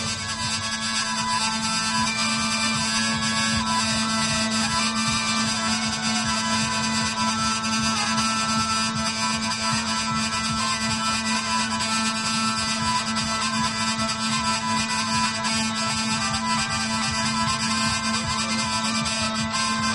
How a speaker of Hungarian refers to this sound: a népművészet ifjú mestere tekerül játszik nekünk. Ez a hangzás is a pusztai vidékhez, a pusztai élethez hozzátartozik.